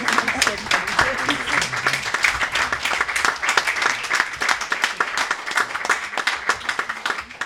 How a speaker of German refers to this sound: Ja, ich habe Ihnen da vielen Dank für Ihren lieben Applaus, vielen Dank für Ihre Aufmerksamkeit.